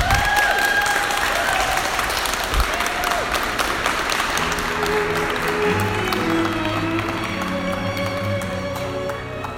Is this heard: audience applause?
yes